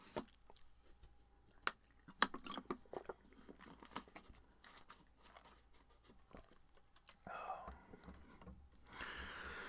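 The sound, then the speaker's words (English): Someone takes a quick sip of water: quiet slurps, wet mouth clicks and soft swallows, with no talking, followed at the end by a brief rustling burst of noise. “Let me take a sip of water quickly.”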